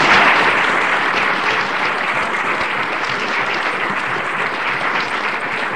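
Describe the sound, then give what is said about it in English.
An audience claps steadily, a dense, continuous patter of applause that stays loud and even for several seconds, peaking slightly at the start. “a round of applause for Wendy, please”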